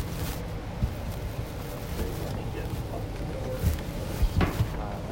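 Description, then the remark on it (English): A door opens with a few short clunks and knocks of its latch and hinges, set against a steady low rumble, with faint indistinct voices in the background. “To the door.”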